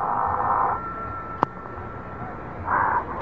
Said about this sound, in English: Answer the phone, Ruth.